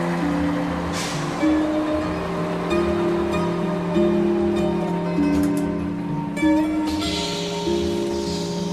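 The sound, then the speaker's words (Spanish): A city bus engine in Madrid drones steadily, its low rumble constant throughout, with brief hissing bursts of air brakes cutting in near the start and again toward the end. “queda solo en el autobús.”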